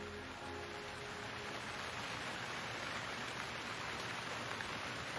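Steady rain falls continuously in front of an old shelter on a small hill, a dense, even hiss of drops spattering on a surface with no let-up. It is fairly soft, and nobody speaks.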